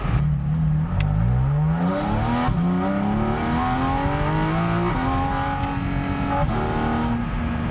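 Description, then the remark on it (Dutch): A sports car launches hard using launch control, its engine roaring loudly as the revs climb in steady rising sweeps, broken by four quick gear shifts. No one speaks. “Maar je merkt dat met dat schakelen, als je launch control doet, die dan even zeg maar dat momentum van die motor meepakt.”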